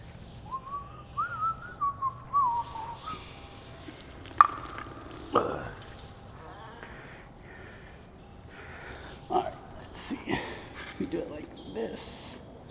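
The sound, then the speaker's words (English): Three small birds trapped indoors chirp in a quick wavering burst, followed by scattered bursts of fluttering wings and scuffling thumps against a quiet background. “Well, these three birds, there's three of them, and I'm worried they're freaking themselves out and are gonna give themselves a little baby bee heart attack.”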